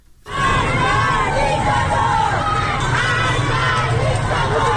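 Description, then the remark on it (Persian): A large protest crowd in Tehran, Iran, chants and shouts together in a steady, loud roar of many voices, with overlapping yells rising above the dense wall of sound throughout. “به چند صدای اعتراضی در مناطق مختلف تهران گوش کنیم.”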